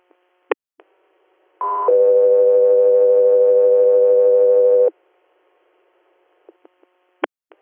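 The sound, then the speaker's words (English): Radio dispatch alert tones for an air medical unit, ahead of an inter-hospital transfer call from Cortland, New York to Sayre, Pennsylvania: a brief higher tone jumps to a long, steady lower tone lasting about three seconds, loud and clear, with a few sharp clicks before and after. “Echo 3 Air, stand by for tones.”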